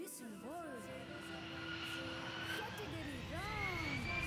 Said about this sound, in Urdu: Scholar school کی team کو لے کر جہاز سفر طے کرتا ہوا اپنی پہلی ڈیسٹینیشن آیا ہے ایران.